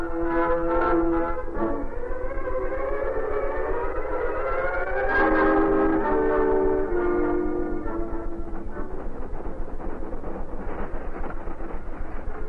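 A train of only an engine and a caboose rumbles steadily westward along new rails while its horn sounds in long, wavering blasts that rise and fall, loud, with the clattering motion continuing underneath to the end.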